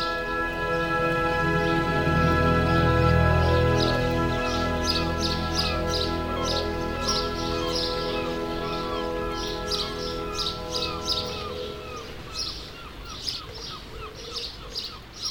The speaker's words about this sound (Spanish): Ahora, cuando cae la tarde, el hacedor de pájaros y el hacedor de música pasean lado a lado, bajo los árboles frutales, escuchando a los pájaros, viendo sus cantos, sintiendo la música volar.